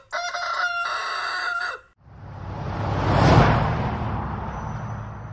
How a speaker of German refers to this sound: Als sie das Schloss erreicht hatten, schrien die Hähne alsgleich Kikeriki, des Herrschers Schwiegersohn ist hier.